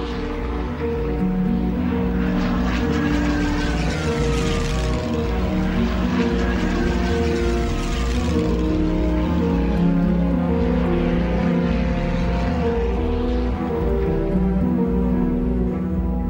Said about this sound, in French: Le bruit au-dessus de la ville est infernal. Tous les jours, 225 avions font des allers-retours permanents, les soutes pleines de nourriture, de biens de consommation, de courriers